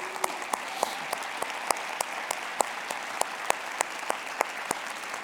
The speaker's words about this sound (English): Let's stand real quick just so you get it back in your memory, okay? Everybody clap as if Bruce was here right now and say, yeah.